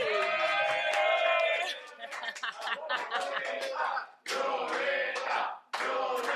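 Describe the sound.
A crowd claps and cheers loudly, with whooping voices at the start giving way to steady, dense applause that briefly dips twice before surging back.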